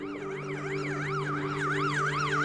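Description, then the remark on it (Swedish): A police siren wails in fast, repeating rising-and-falling sweeps, loud and steady over a low engine hum, with no voices, as five police vans roll into the street. “Snart rullar 5 piketbilar in på gatan.”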